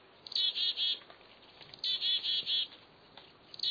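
A mixed foraging flock of chickadees, kinglets and a downy woodpecker calls in a temperate woodland in high, thin, rapid chirps, arriving in bright overlapping bursts that come and go several times, with no talking.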